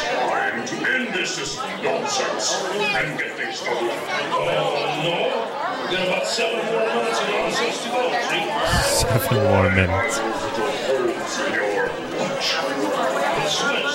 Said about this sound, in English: Fucking people are talking over the pre-show.